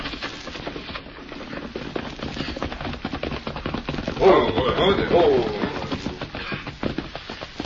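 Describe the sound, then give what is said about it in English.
A horse gallops closer at speed, its rapid, dense hoofbeats clattering continuously and growing louder partway through, with a brief voice-like cry mixed in. “You hear horse? Come plenty fast.”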